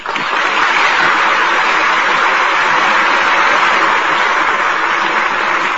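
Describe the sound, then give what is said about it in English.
A crowd applauds steadily and loudly at a curtain call for the stars, including Gail Patrick, after a radio performance of The Jazz Singer, a dense wash of clapping that rises within the first moment and holds at an even level to the end, with no voices. “Applause will assure you both how much we enjoyed tonight's performance.”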